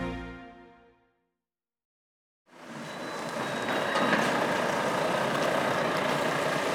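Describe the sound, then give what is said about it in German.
A truck slowly reverses to a large hall to load organic vegetables in Wöhrden, on Schleswig-Holstein's west coast a few kilometres from the North Sea, in late February. Its broad engine rumbles steadily after a brief silence, growing slightly louder, with a faint high-pitched reversing beep threading through. “Langsam rangiert der LKW rückwärts an die große Halle.”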